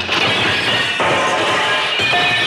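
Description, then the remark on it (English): A plate glass shop window smashes loudly as Golo, a hoofed animal, dashes straight through it, a sustained burst of crashing, shattering noise with fresh waves of breakage partway through, and no voices. “Straight through the plate glass window.”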